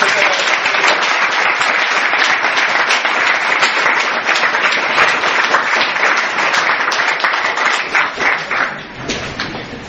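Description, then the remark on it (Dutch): Sustained audience applause fills the whole stretch, a dense, steady wash of many hands clapping at full volume, thinning slightly toward the end. “Ik denk een applaus.”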